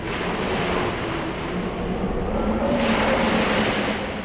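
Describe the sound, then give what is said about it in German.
Rough sea surf churns and crashes continuously against a ship rocking in a strong storm, with heavy wind roar and a low rumbling undertone, the turbulent wash swelling louder toward the end. No voices. “Es wurde dunkel, graue Wolken zogen heran und ein starker Sturm kam auf. Das Schiff begann zu schwanken.”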